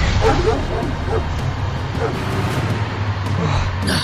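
A dog barks and yips in quick, repeated bursts right behind a person, loud and excited, over a steady low rumble throughout.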